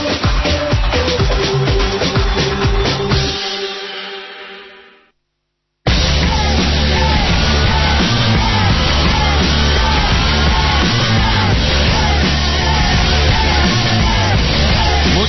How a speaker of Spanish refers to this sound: La megafonía del estadio está muy alta, el retorno está muy bajo, no sabemos muy bien qué está sonando en Madrid, estamos a miles de kilómetros de distancia.